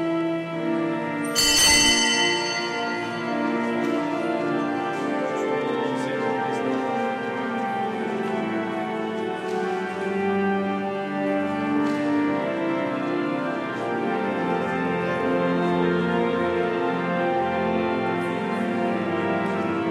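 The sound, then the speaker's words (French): Large bells of Bayonne cathedral ring out before mass, a strong clang near the start followed by dense, overlapping resonant tones that hang in the air at a steady, loud level, with no voices. “Voilà, la messe va commencer. Vous entendez la cloche retentir.”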